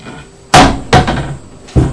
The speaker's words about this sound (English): Don't bang the doors. Be careful. Be careful.